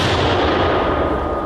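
mortar round being fired

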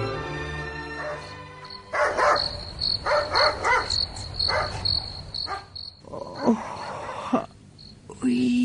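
dog barking at night

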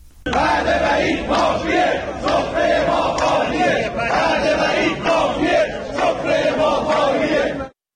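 protesting nurses chanting slogans

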